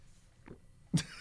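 A loud gulp while drinking: a soft swallowing sound, then a sharper, louder gulp about half a second later, with no talking.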